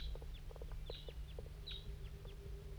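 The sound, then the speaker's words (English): Red crossbill calls at 8:06 a.m. from at least one bird of a large race flying around in a hollow: a scattered series of short, sharp, downward-slurred chip notes, fairly faint, repeating irregularly over a steady low hum with no voices. “and there's a Wild Cross Bill somewhere down here in the hollow.”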